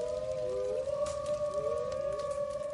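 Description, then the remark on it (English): Several long, drawn-out wolf howls overlap and slowly rise and fall in pitch, sounding distant over a steady rumble of background noise, with no talking. “talking about commerce as the wolves howl in the distance.”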